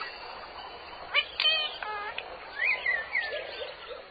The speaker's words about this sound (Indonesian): Alhamdulillah, dengan kedua mata, kita bisa melihat makhluk ciptaan Allah yang indah. Contohnya, seperti burung-burung yang berada di sini.